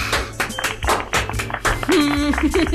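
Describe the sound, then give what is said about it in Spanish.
The studio audience of the TV show Malísimo applauds in a dense patter of claps as the show returns from a commercial break. Toward the end, a sustained voice-like tone rises over the clapping. “Ahí, público. Sí, aplausos.”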